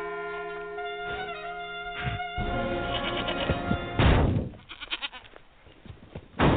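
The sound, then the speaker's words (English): A billy goat bleats loudly in a long, wavering cry, followed by a sudden heavy thump and some scuffling noise, with no talking, in a Farmers Insurance advert. “Billy Goat Ruffians.”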